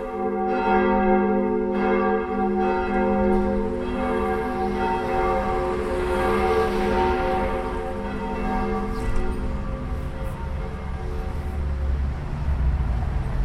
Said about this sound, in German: Jetzt ist bald 12 Uhr, um 12 Uhr läutet es. Wenn es läutet, reicht es in der Regel zum vom Computer aufstehen und in Ruhe ins Mittagsgebet zu gehen